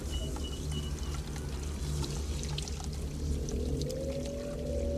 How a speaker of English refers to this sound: Water runs from the bark of the tree, and Camilla washes herself with it.